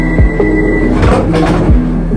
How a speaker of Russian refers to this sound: Я сажусь в пустой вагон и еду, не зная дорогу. Пустой вагон закрывает двери.